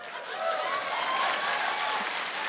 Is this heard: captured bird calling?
no